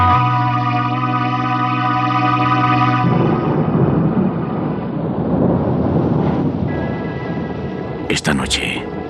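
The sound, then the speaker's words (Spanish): A few seconds of sustained musical tones give way to a steady, loud hiss of rain pouring over a port. Deep thunder rumbles underneath, and a sharp crackling burst arrives near the end. “La lluvia cubre con su manto gris y transparente el puerto.”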